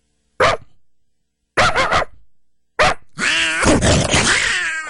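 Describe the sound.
A man's voice mimics a dog barking: three sharp, separate barks, then a longer, rougher stretch of continuous barking and growling, loud.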